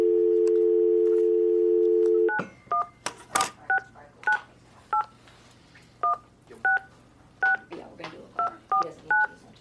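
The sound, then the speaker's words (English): A steady dial tone cuts off and a phone number beginning with 469 is keyed in: a quick series of about a dozen sharp dual-tone keypad beeps, with slight pauses between presses and faint background rustle. “It's 469. Why don't you just key it in?”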